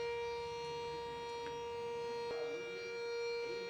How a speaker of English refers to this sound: We're gonna hold here for just a second until the siren quits. But we're going to pray while that's going.